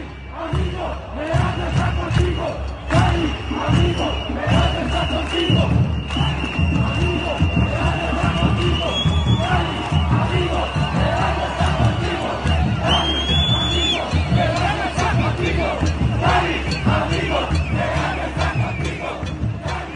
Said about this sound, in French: La foule hurlant « Cali, ami, Pereja est avec toi ».